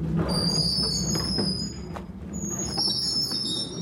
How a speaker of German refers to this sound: Beim Aufbau quietschen nicht nur die Stützen, sondern auch die Seitenklappe. Der Verkaufstresen kommt zum Vorschein.